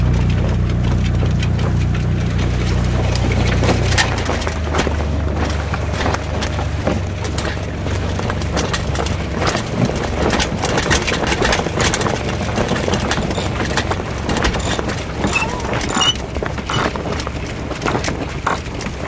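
A small sailboat engine idles at low revs as the revs are being lowered while the mainsail is set in light wind with Cap Nègre ahead, a steady low rumble that drops slightly in pitch after a few seconds, with faint clattering and splashes over the continuous drone.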